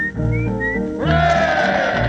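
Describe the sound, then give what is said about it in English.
A person whistles an imitation of nightingale song, one of a series of imitations of well-known British birds: a few short, high rising notes, then a fuller, busier run of warbling phrases, at a steady, fairly loud level with no talking. “And the next will be, take your time one moment, the nightingale.”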